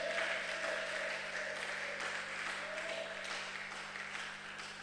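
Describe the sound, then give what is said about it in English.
An audience claps and shouts on receiving blessings, a dense, continuous wash of applause with scattered raised voices and shouts mixed in, holding strong for several seconds before easing slightly toward the end. “Can you clap and shout loud on receiving these blessings?”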